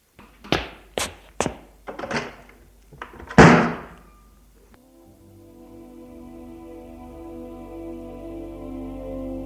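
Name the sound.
door being slammed shut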